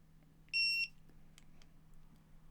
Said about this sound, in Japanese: 音今聞こえましたかね。これ自分で時間設定できるタイマーを準備してて、例えば一回5秒で動かしてみますね。